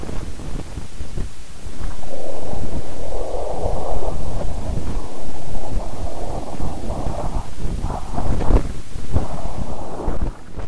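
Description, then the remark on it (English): An audification of data: a dense, rumbling stream of noise with a steady whooshing quality, heavy in the low end, with a brighter band of sound swelling in the middle and occasional crackling bursts throughout. “Well, there is a little bit of a whooshing sound in there.”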